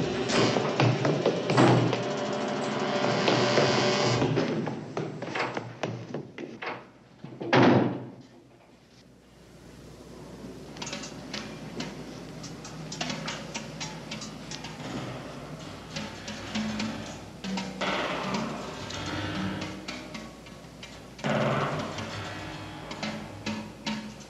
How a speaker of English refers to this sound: Okay, so first, Steve McQueen goes into the bowels of this hospital to find the man, and we hear these sounds that kind of sound like the settling of a large building with lots of pipes, but these clinks start to slowly turn into jazz.